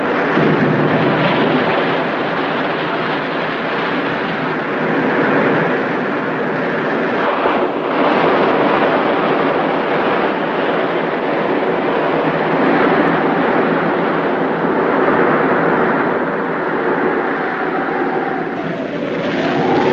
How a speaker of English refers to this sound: Under the surface, he could ride out the worst of the storm.